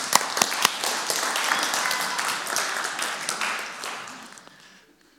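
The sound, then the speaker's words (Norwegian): An audience applauds, a dense wash of many hands clapping at a steady level for about four seconds, then thinning out and fading away. A few sharper individual claps stand out early on. “En applaus til henne også.”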